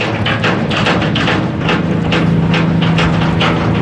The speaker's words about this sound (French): Ah ouais, le bateau des citrouilles, comme dans les histoires. Il fonce celui-là, hein, c'est un bateau de passagers, mais ça fonce drôlement. Hein. Ça avance méchamment.